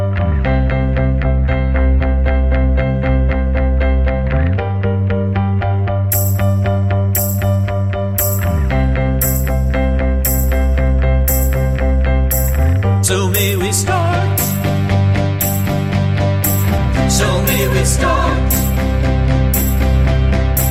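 A loud, full-band pop rock track plays on its own, with a driving bass line and steady drums; bright, rhythmic cymbal hits join a few seconds in and carry through to the end.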